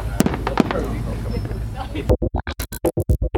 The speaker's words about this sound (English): So what we have here is some fireworks at the nearby Club Med, and it looks spectacular.